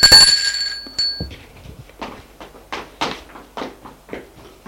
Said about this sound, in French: Elle descend pour le recevoir. Sonne à la porte.